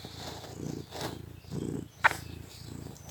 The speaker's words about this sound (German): Nun kommt meine Katze wieder ins Bild.